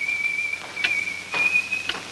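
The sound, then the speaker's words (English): A detective whistles a thin, high tune, holding mostly steady notes with small pitch slides, while a few soft rustles and shuffles sound in the background. “The whistling detective sits.”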